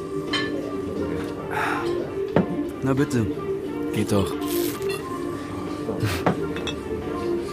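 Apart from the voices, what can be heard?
beer glasses clinking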